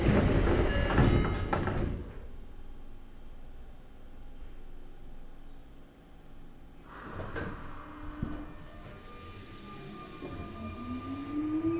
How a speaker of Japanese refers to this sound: 電車は渋谷行きです。発車いたします。閉まるドアにご注意ください。